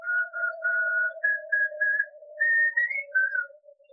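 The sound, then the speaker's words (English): A man whistles a simple tune of short, clear notes, rising and falling over a steady lower tone, moderately loud with no talking, as it grows very cold. “After a while, I heard him whistle.”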